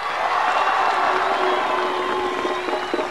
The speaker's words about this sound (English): Whenever Marcos is introduced, the crowd roars. Y ante nosotros, el subcomandante Marcos.